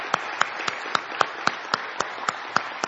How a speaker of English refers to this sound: Give them some love. Give them some applause. Thank you, moms and grandmas, if you can stand.